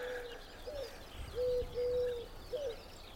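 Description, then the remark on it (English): Wood pigeons cooing in soft, hollow phrases over farmland, a few low notes repeated with short gaps against an outdoor background hum, no talking. “You hear the wood pigeons behind me.”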